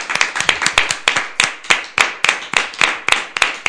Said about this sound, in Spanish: y un aplauso para él. Un aplauso muy fuerte.